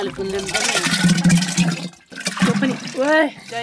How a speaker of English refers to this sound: we're going to combine all this yogurt with warm water in the teko. So I say, okay, put it in.